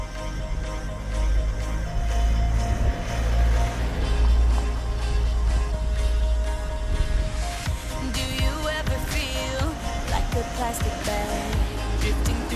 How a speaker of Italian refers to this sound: Ad esempio, si può usare in strada per coprire il rumore delle macchine. Sentite bene.